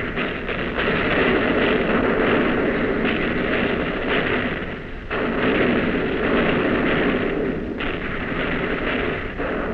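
Heavy naval guns fire in rapid succession at an enemy ship, as fast as they can be loaded: a continuous rumbling barrage of booms with brief dips between salvos, loud and sustained with no voices.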